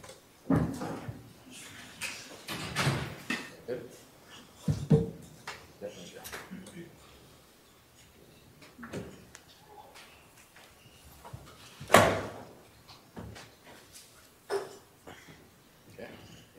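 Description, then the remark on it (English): In a courtroom, a chair is shifted and adjusted with a series of irregular knocks, creaks and scrapes, then a sharper thump as someone practices getting up from it, followed by a few softer shuffling bumps. “Practice getting up once you fix the chair.”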